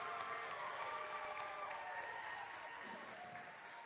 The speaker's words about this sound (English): You can hear a cheer from the crowd as she's going to spell him